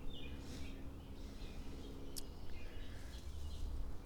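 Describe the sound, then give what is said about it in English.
A faint bird call rises briefly over steady outdoor background noise, a few short high chirps spread across the few seconds with no talking. “I heard something interesting. It was just a bird.”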